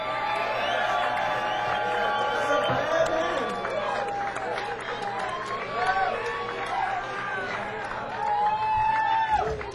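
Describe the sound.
A crowd at a live band performance claps and cheers steadily for about ten seconds for the guitarist, with high whoops and whistles rising over a dense wash of applause and shouting voices.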